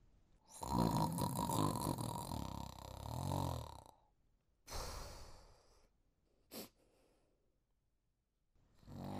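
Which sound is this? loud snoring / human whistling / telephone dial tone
loud snoring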